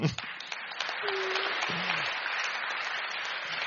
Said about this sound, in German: Manchmal kriege ich, ah okay, bitteschön, dann großer Applaus.